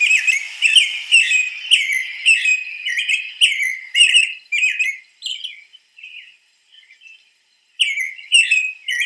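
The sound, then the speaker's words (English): An American robin, a bird that lives year-round in North Carolina, sings a steady run of clear, whistled caroling phrases, bright, pausing briefly in the middle before resuming with a few more notes. “Another bird that lives year-round in North Carolina is the American robin.”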